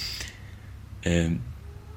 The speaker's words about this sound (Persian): من یه چند تا گربه تو خونه دارم که شما شاید صداشون رو بشنوید.